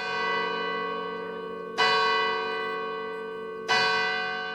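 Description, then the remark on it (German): The bells of the church in Drachselwald, Switzerland, ring at noon to mark the end of the district, with a rich, sustained harmonic tone, two fresh strikes landing about two seconds apart over a continuous humming resonance, fairly loud and with no one speaking. “Die Glocken der Kirche Drachselwald läuten 601 Jahre bernische Herrschaftsausübung, die von oben, vom Schloss aus, ist gekommen, aus.”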